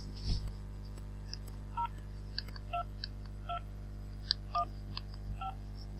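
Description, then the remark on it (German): Six short touch-tone keypad beeps on a telephone, entering the first group of six digits one after another at an uneven pace, each a crisp two-note chirp, against a faint low hum with no talking. “Bitte verwenden Sie nun die Tonwahltasten an Ihrem Telefon, um die erste Gruppe aus 6 Ziffern einzugeben.”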